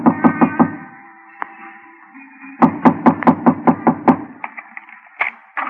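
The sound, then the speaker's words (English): Sharp knocking on a locked door: a quick burst of about four raps, a lone knock, then a longer steady run of roughly eight loud knocks, with no talking. “Knock on the door.”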